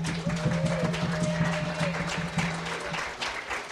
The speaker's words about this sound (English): I want to extend, and I want you all to extend your thanks to our door prize team, and feel free to clap as we go.